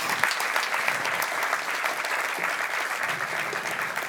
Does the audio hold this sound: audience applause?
yes